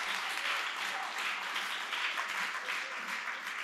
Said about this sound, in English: Let's give him a hand of praise. Amen. Let's get excited for each other. Amen.